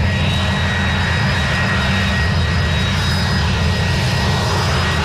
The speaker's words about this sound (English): But here's a woman watching a jumbo jet land for the first time.